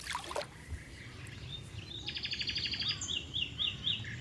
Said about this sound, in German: Schön, oder? Und dann diese Bäume überall, große Kopfweiden, Silberpappeln, Ulmen, Eichen und überall hört man Vögel.